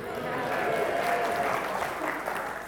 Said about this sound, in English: And here we have the King of the Fools. Give him a cheer, his team.